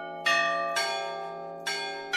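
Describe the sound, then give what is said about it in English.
The Lowell House bells at Harvard, played by bell ringers, ring out a short film theme tune, four resonant strikes with long overlapping hums, two close together, a pause, then two more, clear and fairly loud. “As you can hear, the Lowell House bells can't really ring a chromatic scale, and this tune is a far cry from traditional Russian bell ringing, which uses rhythmic patterns rather than melodies.”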